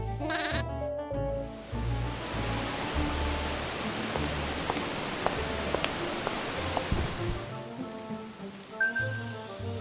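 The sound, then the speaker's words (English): A sheep bleats loudly, its wavering, nasal cries repeating over a steady hiss of background noise with no talking. “Huh, I found it! A golden sheep.”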